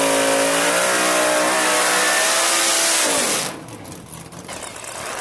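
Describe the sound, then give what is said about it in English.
A drag racing car does a burnout with its front brakes held, its engine revving in a loud, sustained roar with rising and falling pitch over a harsh noisy wash. After about three seconds it drops off to a lower rumble. “They hit the front brakes and just light it up.”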